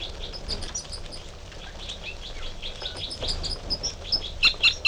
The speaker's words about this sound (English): And the male giving song phrases behind.